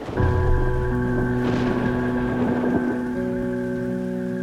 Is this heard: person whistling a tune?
no